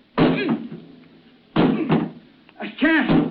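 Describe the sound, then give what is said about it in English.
Three heavy, booming blows against a jammed metal cabin door on a sinking ship, spaced more than a second apart, each struck with a strained, effortful grunt as someone tries to break the door down. “I can't break it. It's metal.”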